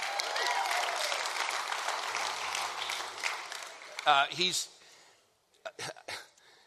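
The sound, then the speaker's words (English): A church audience applauds in a dense, steady patter of many hands for about four seconds, then the clapping fades out and a few short bursts of voices follow. “And you're clapping, but you're going to be charged to get in.”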